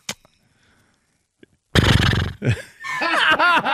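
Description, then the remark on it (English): After a short quiet pause, a person loudly imitates a horse: a rough, snorting blast followed by a wavering, whinny-like neigh. “Are you sure you can't make a horse noise?”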